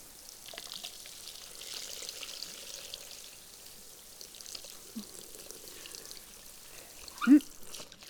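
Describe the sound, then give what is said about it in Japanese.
Water is poured to rinse soap foam off a body, pouring and splashing steadily in a soft wash, with a brief louder splash near the end; no one speaks. “きれいに泡を落としてと、あ、体の泡も落としちゃうね。”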